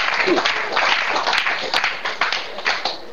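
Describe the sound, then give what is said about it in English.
A crowd claps steadily, a dense rush of many overlapping hand claps keeping a fairly even level for the whole stretch, with sharper individual claps popping out now and then. “But give Jesus a clap offering.”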